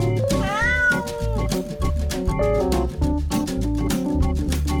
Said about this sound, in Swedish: Har ni hört vår katt? Hon vill säga något. Jamar gör hon, alla stör hon, hon vill ha något gott.